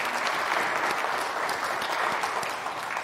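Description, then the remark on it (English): A round of applause from a standing crowd congratulating second graders who received their sacrament: dense, steady clapping that stays loud and even for a few seconds, a bright crackling wash with no voices standing out. “Stand up, please, and turn around, and let us give them a round of applause.”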